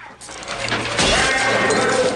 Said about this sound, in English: One of the guards stamps on the photo of Melissa, smashing the glass.